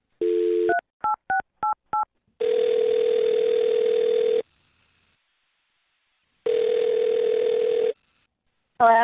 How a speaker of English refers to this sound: All right, I'm going to dial her number right now.